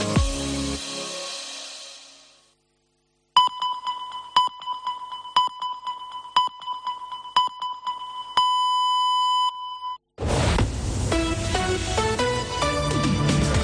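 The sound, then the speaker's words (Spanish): A series of short, evenly spaced electronic pips, roughly one per second, with a longer final tone, standing alone between bursts of music: the COPE Catalunya i Andorra radio time signal for half past one on a very cold Wednesday, 15 January. “Senyals horàries de dos quarts de dues d'aquest dimecres, dia 15 de gener, amb un fred que pela.”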